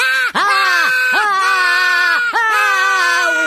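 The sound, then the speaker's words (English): A man screams loudly in fright, a sustained, strained yell that keeps breaking and swooping in pitch, with brief catches for breath between bursts, alone with no talking. “What am I screaming for? What's scary?”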